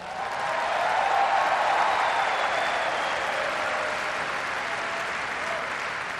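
An audience applauds steadily for about six seconds to honor the Romney family's legacy of public service, a dense, even wash of clapping that swells slightly early on and then holds at a constant level with no voices over it.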